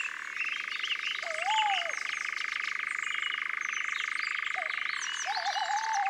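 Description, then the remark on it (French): A nightjar churring: a steady, rapid mechanical purr that runs unbroken for several seconds, shifting slightly in tone near the end, with a few faint whistled calls alongside. “On entend un engoulevent aussi, ce ronronnement bizarre sur deux tons, monotone.”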